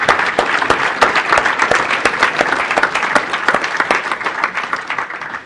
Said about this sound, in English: First of all, we want to give you a round of applause. We want to thank God for you.